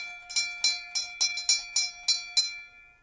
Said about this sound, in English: It's the castle first, and as it's on an island, that means if you visit it, there's got to be a boat trip. If there's no one waiting on the jetty when you arrive, you have to ring this bell.